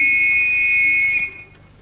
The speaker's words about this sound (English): Here, hold this whistle and play that note.